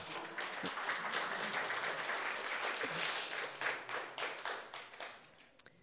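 An audience applauds, a dense, steady wash of many hands clapping that gradually thins into scattered individual claps before fading out.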